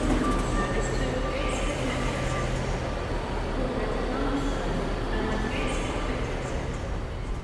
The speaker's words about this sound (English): The rumble of the track, the whisper of anticipation. The next station will be Newcastle. The sound of our unlocking, on a train heading north.